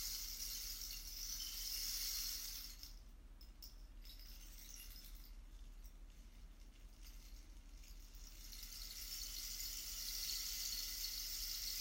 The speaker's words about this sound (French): À vous laisser rêver par le son de ce bâton de pluie. Qui vous invite à vous déposer un peu plus vers la terre. Délicatement, subtilement. Chaque cellule de votre corps qui se dépose au son du bâton de pluie.